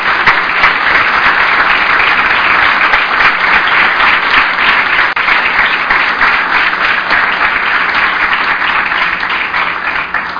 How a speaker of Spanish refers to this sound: Por eso me permito pedirles un aplauso para estas personas que han hecho grande el Parlamento.